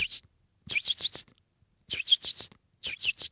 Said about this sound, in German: die können noch nicht fliegen, verteilen sich im Garten, minimieren so das Risiko, alle auf einmal von der Katze gefressen zu werden. Aber die Eltern müssen sie ja wiederfinden. Das heißt, die Jungamseln äußern permanent sogenannte Standortrufe.